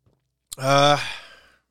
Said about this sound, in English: Now, Sports Show 16, we here. Get another little sip in one time.